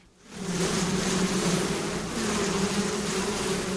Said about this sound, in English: It wasn't the best day to check on bees. It was hot and overcast, and there was a stiff breeze.